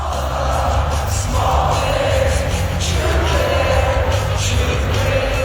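A huge arena crowd sings along loudly to a pop-punk song, thousands of voices blending into a dense, steady roar over booming amplified music.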